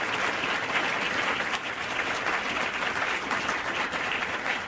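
Steady, loud applause from an audience at an event hosted by the Center for Practical Bioethics and the Kansas City University of Medicine and Biosciences on Independence Avenue, a dense crackle of many hands clapping at once that holds evenly for several seconds without voices rising above it.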